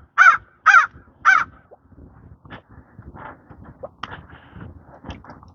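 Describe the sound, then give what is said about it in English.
A crow caws three times in quick succession, loudly, followed by quieter scattered rustling and faint outdoor sounds, during a morning walk. “That's a crow.”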